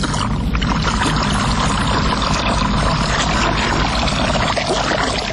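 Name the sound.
water pouring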